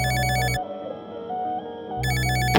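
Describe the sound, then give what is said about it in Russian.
A telephone rings in two electronic, trilling bursts separated by a short pause, loud, with a faint tonal hum filling the gap between rings. “Эта история звучит как телефонный звонок.”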